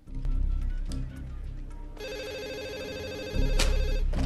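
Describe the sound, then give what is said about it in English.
A telephone rings on an outgoing call: a single warbling electronic ring tone heard through the line for about a second, followed by a clunk as the receiver is picked up. “Bill dials out on his phone.”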